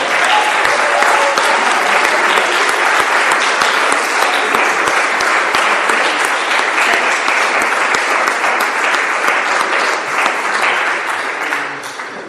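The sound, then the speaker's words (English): Sustained applause from an audience for the Joanneum, a dense, steady wash of many hands clapping at full volume for about twelve seconds, easing slightly at the very end. “Ich denke, wir können auch noch mal applaudieren dem Joanneum, dass sie uns begleitet haben.”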